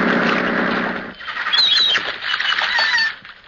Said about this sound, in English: Belmar's Island had overstuffed seagulls on it the size of vultures.